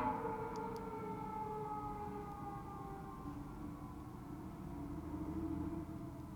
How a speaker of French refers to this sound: Alors que passe un camion de pompiers.